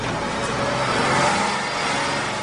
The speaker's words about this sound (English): That's my car starting up, by the way.